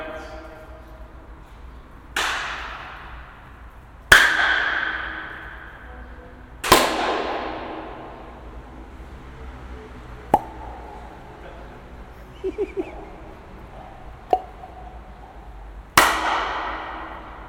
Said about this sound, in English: This is the best sounding natural space. Do you want me to try and clap from the other end now? Oh yeah. So just stop here because you're going to leave. Yeah. Yeah. That's bloody amazing.